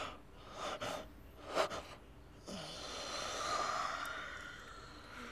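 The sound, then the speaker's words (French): A couple of short, breathy intakes lead into a long, drawn-out exhaling yawn. Fairly quiet, with no talking. “Ils baillent tellement qu'ils vont bientôt roupiller.”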